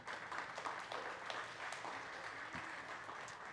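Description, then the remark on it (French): Steady crowd applause fills the space, a dense wash of many hands clapping at an even, sustained level with no voices standing out, continuing without a break. “Bien, si j'avais sorti une bague, puis j'avais dit « cette bague-là a été confectionnée il y a 35 ans », peut-être qu'il n'y aurait pas eu d'applaudissements.”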